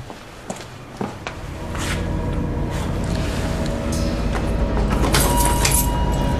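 Metallic clicks and rattles, like keys jangling and turning in a lock, over a steady background hum, with a brighter burst of jingling near the end. Keys are brought to open a door. No one speaks.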